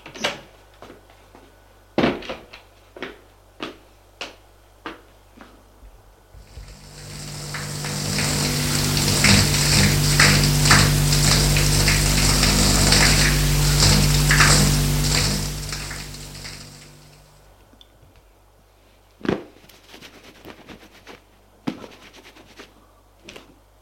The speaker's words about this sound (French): Allez, hop, il se lève. Et va prendre sa douche.